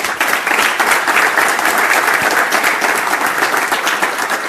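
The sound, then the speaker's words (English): Sustained, loud clapping from a large audience welcoming a speaker about to give a talk on DNS privacy, a dense crackling wash of many hands that holds steady throughout without anyone speaking over it. “And yeah, please give a round of applause for Roland.”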